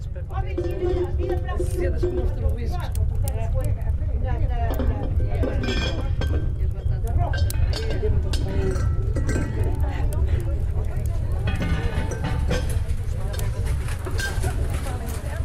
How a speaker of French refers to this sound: Le soir, dans la cuisine, près du feu, les femmes préparent les repas dans des grandes casseroles en fer.